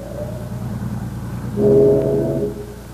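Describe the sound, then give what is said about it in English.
A deep steamship whistle blares once for about a second, a sustained low horn tone with harmonic bands, rising over a steady rumbling engine drone and then fading back into it. “That's no traffic whistle. Sounded like one on a steamer.”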